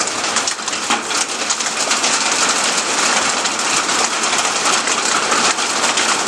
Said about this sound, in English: a thunderstorm, Middle Tennessee style. The hail is a falling, friends. It's about the size of a penny.